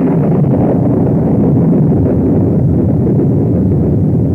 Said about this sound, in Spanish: La lluvia.